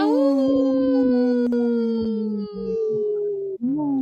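Wolves howl together in a loud, sustained chorus of long, wavering tones that slowly slide downward, with a brief break before the howls rise again near the end.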